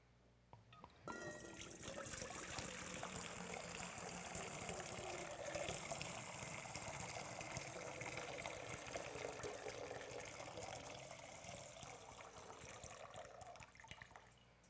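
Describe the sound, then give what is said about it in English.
Water pours steadily from a container for around thirteen seconds, a continuous splashing gush that begins abruptly and tapers slightly toward the end, with no voices. “So I simply want to offer one image in terms of Jesus Christ being poured out and empty.”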